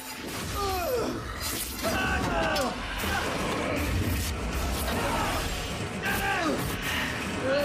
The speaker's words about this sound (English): Now on his knees, Dennis looks up to see the Juggernaut bearing down on him before the hammer gives him a heavy blow on the back.